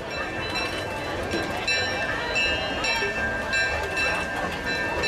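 Railroad crossing bells clang in a steady, rapid rhythm over a dense rumble of passing train noise, loud and continuous throughout.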